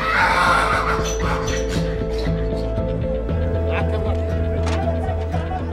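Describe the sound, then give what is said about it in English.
A donkey brays loudly in long, wavering calls over the steady rumble of a donkey cart rolling along as it arrives, the sounds continuous throughout. “The man from the donkey cart comes.”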